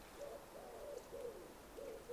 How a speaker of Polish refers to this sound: Gołąb grzywacz, tak, odzywa się wyraźnie.